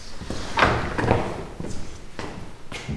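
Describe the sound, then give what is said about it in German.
A door to the large treatment room of a practice opens with a handle click and a few dull knocks and thuds, followed by quieter shuffling and small bumps, with no talking. “Er öffnet die Tür zum großen Behandlungsraum seiner Praxis.”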